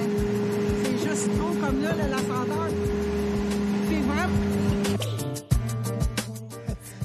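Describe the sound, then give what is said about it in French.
A garbage truck engine drones loudly and steadily, its low hum shifting partway through as metallic clanks and knocks break in, with faint voices in the background. “On entend le camion pas mal. Hey, c'est fort le bruit du camion.”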